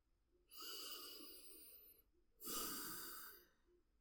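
Two long, deep breaths drawn in, each lasting over a second with a short pause between them. No one speaks.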